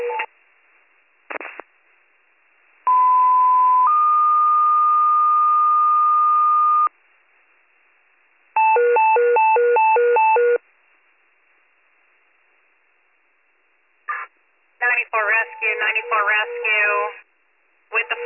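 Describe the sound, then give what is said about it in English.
Warren County fire dispatch paging tones over a narrow, tinny radio channel, a retone for fire 94 about an activated fire alarm with smoke smelled upstairs at a South Main Street residence. One long steady tone steps to a second pitch, then a rapid burst of beeps, followed by a dispatcher speaking. “94 fire, retone, update.”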